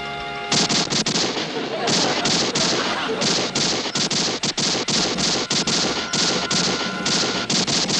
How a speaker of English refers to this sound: That's funny. It's beginning to hail. That's not hail, and it's not funny. They're shooting at us.